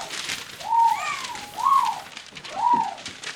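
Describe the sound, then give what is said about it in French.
Three soft, arching coos from a dove-like bird, evenly spaced about a second apart, over a faint airy hiss with no voices, as birds leave their nests in a forest. “Les oiseaux parmi les quittent leur nid.”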